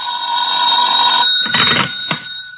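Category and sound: household object, telephone ringing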